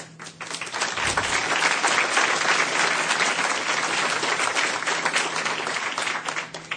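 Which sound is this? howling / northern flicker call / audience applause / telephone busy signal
audience applause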